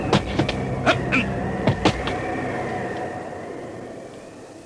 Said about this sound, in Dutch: In het donker stierf het geluid van het toestel weg.